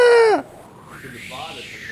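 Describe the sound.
A person imitates a seagull with a loud, shrill squawk that bends in pitch and cuts off abruptly, followed by a softer, wavering cry trailing off.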